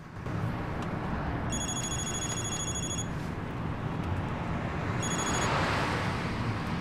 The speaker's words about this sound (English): Harry's phone rings.